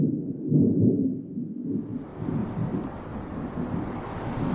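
A dull, low roll of thunder rumbles steadily for several seconds, deep and fairly loud, with a windy, hissing wash building in over the second half. No one speaks.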